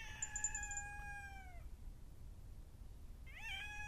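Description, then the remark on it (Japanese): An injured kitten with deep wounds gives two thin, drawn-out meows, the first long and sliding downward, the second starting after a quiet pause, over a low background hum. “この子猫も傷結構深いし、多分もう長くないと思う。”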